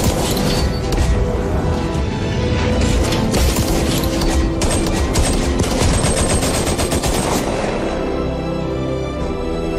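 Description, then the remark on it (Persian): A loud, sustained burst of rapid gunfire during a firing test, shots firing in quick succession for several seconds before tapering off into a lower rumbling tail. “آماده برای شلیک؟”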